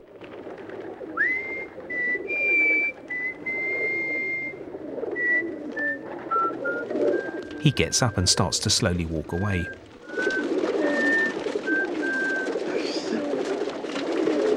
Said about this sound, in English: turns round to see the frame filled with a flock of fluttering pigeons